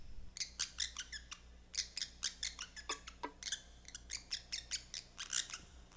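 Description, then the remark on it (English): A pet parrot named Lulu chirps rapidly and repeatedly in an apartment and studio in Berkeley, a steady string of short, bright squeaky calls, with only a low background hum and no talking. “I spoke with her in her apartment and studio in Berkeley, where she teaches violin and lives with her daughter, her parrot Lulu, and parrotlet Shushu.”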